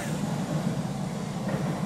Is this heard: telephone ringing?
no